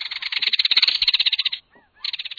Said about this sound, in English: Near the shore, disputing kingfishers rattle in their mercenary manner, chasing one another through the madronas.